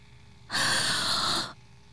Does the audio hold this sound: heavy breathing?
yes